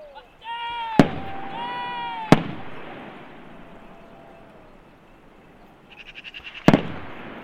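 Three sharp shotgun shots crack out far away at uneven intervals, two close together and a third after a pause, fired by hunters on a hillside at a wild boar fleeing from dogs, over an outdoor background with tonal animal-like calls and a short pulsing sound.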